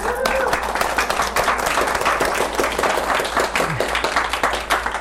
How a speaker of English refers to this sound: However, sometimes we want that prayer, that energy, to stay with us for just a moment longer. And then you can clap it in. Yes, clap it in.